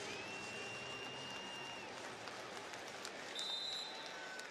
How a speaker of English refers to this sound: Good crowd on hand, sellout crowd here at Ford Field. A lot of Bears fans here, but that normally happens whenever they play Chicago.